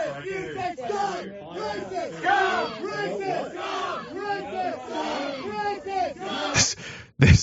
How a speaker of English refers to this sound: She's just meekly mouthing, like repeating the slogans these idiots are shouting.